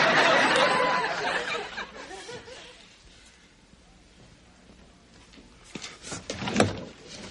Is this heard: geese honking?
no